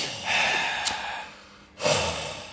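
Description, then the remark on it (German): A person breathes heavily and with exaggeration, a long loud exhale followed by a brief pause and another forceful, annoyed breath, with no words spoken. “Und dann so schwer atmen.”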